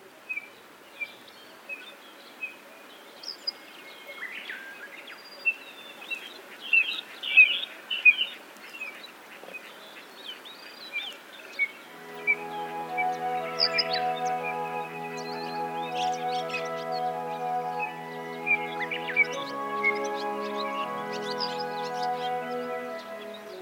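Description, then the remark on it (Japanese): Short, high piping calls of a little ringed plover on the Daigenji plateau in Japan ring out repeatedly amid a chorus of other birds, including cuckoos and Japanese bush warblers, joined midway by a steady, sustained tonal drone beneath the chirping. “カッコウやウグイスのさえずりが聞こえてくる中でのコチドリの鳴き声は、小鳥たちの声に溶け込んでいました。”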